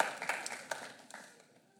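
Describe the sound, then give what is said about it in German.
A handful of sharp hand claps in a loose, uneven rhythm, fairly quiet, each crack trailing off, with the claps thinning out and fading toward the end. No talking. “Ja, gern, klatsch doch einfach mal.”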